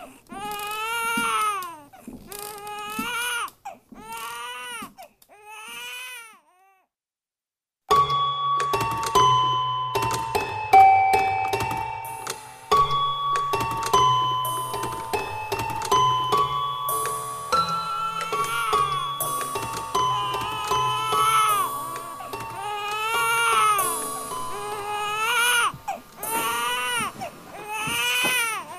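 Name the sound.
baby crying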